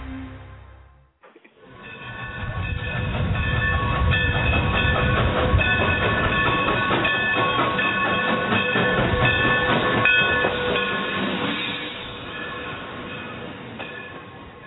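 A train rolls steadily along the tracks with a loud, continuous rumble and rhythmic clatter, building up after a brief pause at the start and easing off slightly near the end.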